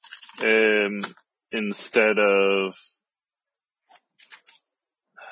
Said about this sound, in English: Sorry, I'm just typing directly into the chat.